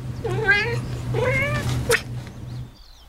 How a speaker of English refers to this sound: Every morning, I wake up in my 100-year-old Chicago apartment to the sounds of my cat eagerly meowing at her perch by the window.